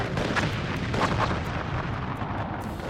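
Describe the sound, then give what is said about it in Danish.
Cannons of Sten Bille's ship fire a rapid broadside into pirate ships in a harbour, heavy booms overlapping into a continuous rumbling roar that stays loud and dense throughout, with sharper blasts punching through near the start and middle. “De får masser af hans gaver, altså kanonkugler, lige ind i siden.”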